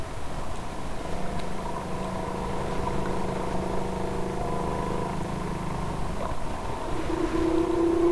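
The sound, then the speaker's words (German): Long, droning whale song recorded from a boat off Ecuador: sustained tonal moans with layered harmonics, heard over a steady rumble of boat engine and water noise throughout. “Es klingt akustisch etwas anders, was aber darin liegt, dass letztere Gesänge vom Boot aus aufgenommen wurden.”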